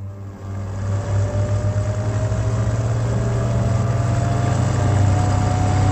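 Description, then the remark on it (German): A car engine drones steadily while driving, a continuous low rumble with a rising whine as it picks up speed, no voices present. “Ihr Auto kam an der Steilküste von Beachy Head von der Straße ab und stürzte über 100 Meter in die Tiefe.”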